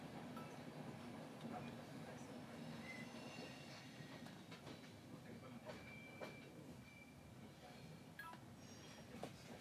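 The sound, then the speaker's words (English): Railway carriages rumble slowly along as a train is split into two halves so each part can be loaded onto a ferry, with a steady low roar, thin metallic wheel squeals rising now and then, occasional sharp clanks and knocks, and faint voices in the background. “My guess is that they had to move us away from the other bits because they need to separate the two halves of the train and then have each of the locomotive to get onto the train, to get onto the ferry.”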